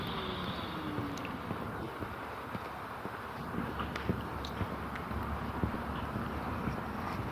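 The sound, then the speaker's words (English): A garbage truck rumbles past, its steady engine noise filling the background with occasional clanks and rattles, no voices present. “Garbage truck is going to drive by here momentarily.”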